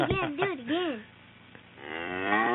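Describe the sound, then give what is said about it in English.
Two loud cow moos from a played sound effect play back to back: a wavering, bending low call in the first second, a short quiet pause, then a longer, steadier moo that swells toward the end. “We've resurrected the cow.”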